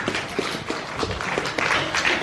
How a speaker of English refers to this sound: Right. Thank you. Big round of applause for everyone.